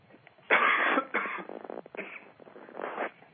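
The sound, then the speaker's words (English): A fairly loud fit of coughing: two harsh, raspy bursts, then a few smaller rough coughs and a final hack, with no talking. “So in closing, I'd like to apologize for my coughing interruptions today.”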